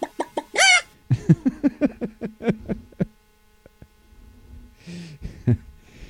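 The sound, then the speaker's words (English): A chicken sound effect: chickens cluck in a quick run of sharp bursts, followed by a short pause and then a few more scattered clucks. No one talks. “Hide your chickens.”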